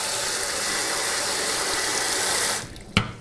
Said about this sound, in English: And actually, I'm gonna run some cold water on them too, just to cool them down.